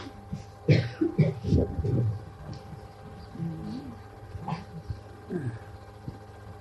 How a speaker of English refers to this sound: There is a dog there, there is also silence there.